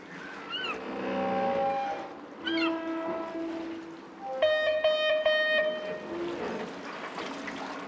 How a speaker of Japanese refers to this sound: スパイスのように時々鳴いてくれるカモメや、この時間軸上で最高のタイミングで鳴ってくれる船の警笛、もはやサウンドアートだと思いませんか？